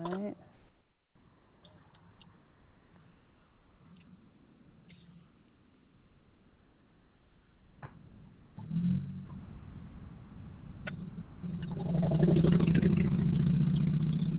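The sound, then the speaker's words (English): Low traffic rumble hums in the background, swelling after a few brief clicks into a loud, steady engine drone near the end as a vehicle seems to pass by. “I hear traffic.”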